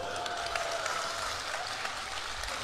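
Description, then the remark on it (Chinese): Steady, dense applause from an audience welcoming a performer fills the whole stretch, a continuous wash of many hands clapping at moderate loudness with no voices on top. “啊，大伙儿这么欢迎，你给大伙儿展示一个吧。”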